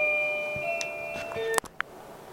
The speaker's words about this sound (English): Excuse the interruption. We had our front doorbell ring, so please bear with me.